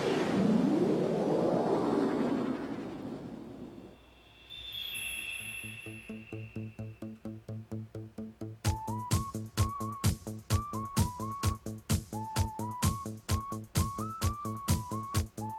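A catchy movie end-credits tune played on an electronic keyboard: after a rising whooshing swell, a steady pulsing bass pattern starts, then a bright melody joins over the repeating beat. No one speaks.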